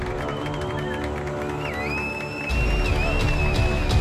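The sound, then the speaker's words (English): A crowd applauds and cheers steadily, with dense clapping and a few high whistles rising above it; the noise swells louder about halfway through and stays strong to the end. “Your applause is much appreciated.”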